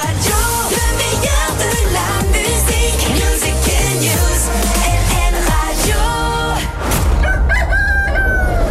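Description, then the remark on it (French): A rooster crows loudly, several overlapping cock-a-doodle-doos rising and falling in quick succession, with clucking hens mixed in and no one speaking, used as LN Radio's wake-up call between 4 and 6 a.m. “Entre 4h et 6h, LN Radio vous réveille au chant du coq.”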